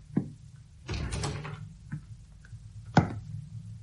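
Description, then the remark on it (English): A door opens with a short click, a rough, scraping swing lasting over half a second, a soft knock, then a sharp wooden thud. No one speaks. “Why did you open the door?”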